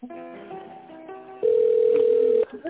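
A telephone rings with electronic tones on an incoming call about a won tender from the company Gosbiznes-Partner: a short stepped melody of beeps, then one long, loud, steady tone that cuts off abruptly. It is clear, with no talking over it.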